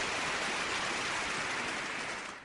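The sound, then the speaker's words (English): A dense, steady wash of applause with many hands clapping together, holding an even level before tapering off slightly at the very end. No one speaks over it. “I'm letting the full applause run for that.”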